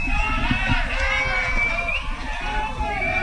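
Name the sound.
baseball crowd cheering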